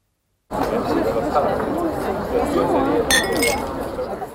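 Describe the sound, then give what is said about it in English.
Steady, dense pub crowd chatter, many overlapping voices murmuring at once with no words standing out, plus a brief bright clink of glasses partway through. “At the pub, an interesting offer.”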